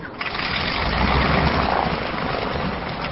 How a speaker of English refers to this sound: Over the roar of airplane engines, General Yeager says the key to the Young Eagles program is actually letting the kids get a hands-on feel for flying, whether it's a small modern airplane or an aircraft from the dawn of commercial aviation.